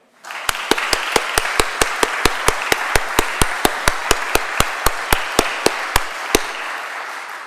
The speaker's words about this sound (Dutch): En juist voor hen, die leiding van nu en van al die jaren hiervoor, zou ik nu een daverend applaus willen.